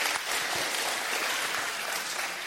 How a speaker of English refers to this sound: Let's give them a round of applause, our speakers of the truth.